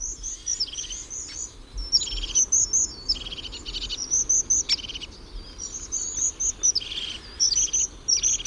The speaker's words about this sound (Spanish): Y este que viene como con prisa es un herrerillo capuchino, bueno, otro pájaro del pinar.